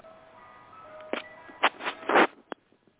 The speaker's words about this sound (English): What's all that noise in the background? That's the good humor truck outside. Oh, it's coming from outside.